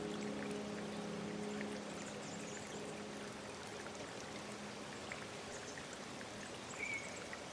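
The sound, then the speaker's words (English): Water rushes steadily through a drainage channel, a continuous, even flow with a faint low hum underneath and no voices, holding at a moderate level throughout. “They redirect the water whenever there is a storm, so the willow trees growing in this area do not become damaged.”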